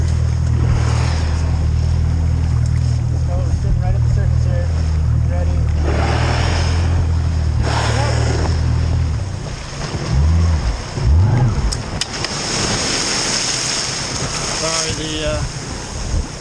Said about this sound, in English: So we heard there, I heard, you know, the sort of rush of rising water and, of course, the whoosh of the whale's blowhole.